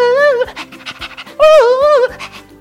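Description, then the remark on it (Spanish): A voice imitates a wavering siren wail twice, and between the wails come quick, breathy panting bursts like a dog's, fairly loud, imitating a fire truck with legs and its tongue hanging out. “Apareció un carro de bomberos con patas y con la lengua de fuera.”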